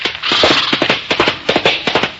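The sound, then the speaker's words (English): A rapid, uneven volley of sharp gunshots as a man is shot, more than a dozen loud cracks in quick succession over about two seconds, with no voices over them. “Need to know is I shot a guy and we got to lay him out of here.”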